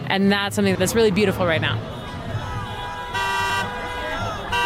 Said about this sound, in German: Eine Demonstration gegen Donald Trump und Elon Musk in Kansas City im Bundesstaat Missouri. Vorbeifahrende Autos hupen als Zeichen der Zustimmung.